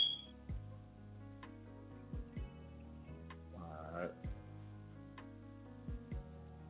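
A phone alert plays as a steady electronic tone with a brief high beep at the start and soft paired clicks recurring every couple of seconds, moderately quiet, with a short murmur midway.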